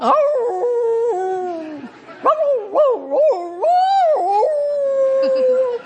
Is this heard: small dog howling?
yes